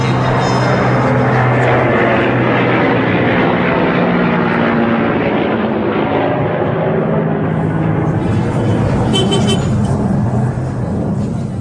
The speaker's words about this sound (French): L'avion qui passe là, la circulation, c'est la pagaille. Donc, c'est le grand bazar ici. Le grand bazar de Kaboul, c'est l'avenue qui va de la rivière de Kaboul jusqu'au stade.